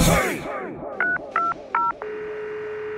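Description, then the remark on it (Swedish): Telephone keypad dialing tones as someone calls his mother: three short, evenly spaced beeps followed by a longer steady tone, clear, with no one speaking. “Ja, jag måste ringa upp min mamma.”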